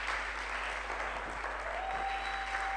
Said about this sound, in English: Oh, come on, clap, clap, thank God. Oh, please, clap more.